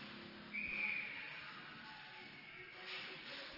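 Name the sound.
referee's whistle stopping play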